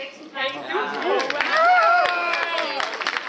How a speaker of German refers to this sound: Jubel und Applaus im Basler Kongresscenter für das eindeutige Votum der Baslerinnen und Basler. Bei etwas mehr als 57% Wahlbeteiligung haben fast 67% Ja gesagt.